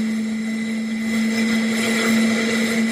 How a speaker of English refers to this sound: That seemingly unremarkable sound has made the airline industry sit up and listen. It's a geared turbofan engine in testing. What is a geared turbofan? It saves fuel, a lot of fuel.